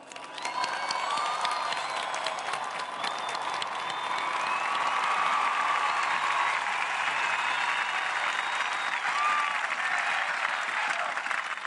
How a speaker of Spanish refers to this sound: A él se lo agradecemos de todo corazón, y a él, que nos convocó hoy aquí, le enviamos un saludo y un fuerte aplauso.